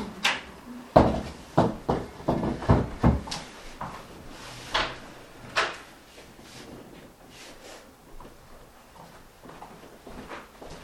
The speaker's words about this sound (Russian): Слушайте, жарко, давайте откроем. Дышать нечем. И ту, наверное, дверь тоже, потому что там хоть немножечко сквозило.